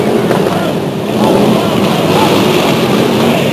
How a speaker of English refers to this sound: At the same time, the motorcycle group is revving their engines, and the mounted police are coming down escorting the two yellow buses all at the same time.